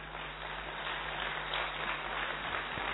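An audience at a talk claps steadily for the speaker for about three seconds, a dense, continuous wash of many hands with no voices rising above it and no clear break in the sound.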